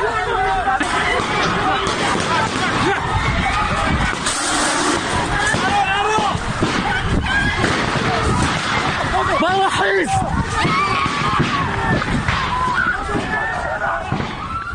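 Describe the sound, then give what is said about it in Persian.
A dense, agitated crowd shouts and clamors throughout, with sharp cracks like gunfire bursting out sporadically amid the continuous chaotic commotion, as special unit security forces raid a gathering of medical sciences students inside the Kurdistan University of Medical Sciences on 7 Aban, firing shots and throwing tear gas. “گزارش ها نشون میده که ماموران امنیتی به تجمع دانشجویان علوم پزشکی کردستان حمله کردند، به اونها گاز اشکاور پرتاب کردند و همینطور تیراندازی کردند.”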